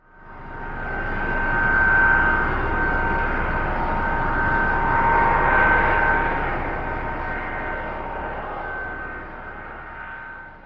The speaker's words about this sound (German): Richtig. Das Flugzeug muss erst über das Rollfeld zur Startbahn rollen. Dort muss es dann so lange warten, bis es die Erlaubnis bekommt zu fliegen.